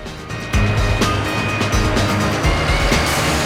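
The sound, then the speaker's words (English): A heavy lorry laden with heavy-duty machinery rumbles past through a village, its deep engine drone loud and steady, with occasional clanks and rattles from its load breaking through the roar. “sees a lorry laden with heavy-duty machinery rolling through the village.”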